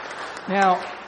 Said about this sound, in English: Now is that applause because she hasn't divorced me in those 33 years?